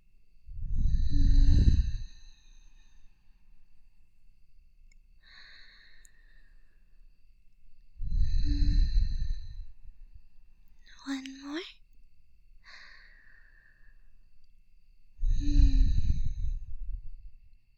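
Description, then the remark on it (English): Slow, deep calming breaths: three long, heavy sighing exhales about seven seconds apart, each preceded by a softer, airy inhale, with no talking. “Now, breathe with me. Copy my breathing and I guarantee you'll feel more at ease.”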